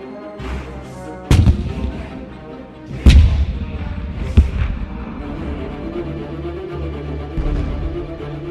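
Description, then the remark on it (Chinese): Heavy cannon fire from a ship, aimed at the flag over a log stockade, booms out in three sharp blasts, roughly a second or two apart, over a continuous low rumble. The shots are loud, and nobody speaks. “另一方面，吉姆和根培恩循着隆隆炮声的方向前来”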